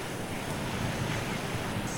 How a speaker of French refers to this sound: Mais faisons vite, car le mistral se lève. Et inutile de vous dire que tout bon Marseillais, digne de son, ne met pas un orteil dehors quand il souffle.